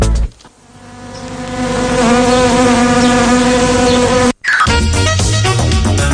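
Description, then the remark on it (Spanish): Loud buzzing of wasps drones steadily with a rich, wavering hum, briefly dropping out near the start and again just before the end before resuming. No one speaks. “Ya se van acomodando las avispas de este martes.”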